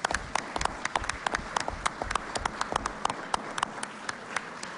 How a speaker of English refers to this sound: How about one more applause for the candidates here?